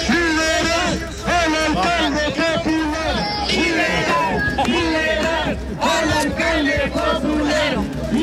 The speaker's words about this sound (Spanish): Popular, liberal, liberal, grita a la gente. Acompañado, siempre está acompañado de distintos adherentes, con banderas del Partido Comunista, también de Palestina, acompañado de su pareja.